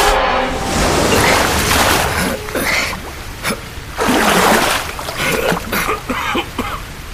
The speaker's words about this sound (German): Wassereintritt. Die eiskalte, übelriechende Brühe des Kanals ergoss sich ins Innere der Kammer. Schon hatte das Wasser den Boden bedeckt, benetzte meine Knöchel und ließ in mir lähmendes Entsetzen aufsteigen.